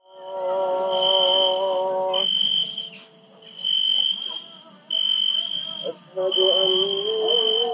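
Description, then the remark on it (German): Crickets chirp at night under a full moon at a campsite about 200 metres from the road and town, in a steady, shrill trill that pauses briefly a few times, with a muezzin's wavering voice chanting faintly in the background. “Du hast hier keinen Lärm, außer die Zirpen und den Muezzin im Hintergrund.”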